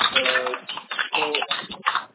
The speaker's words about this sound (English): There's a lot of typing noise coming from your background.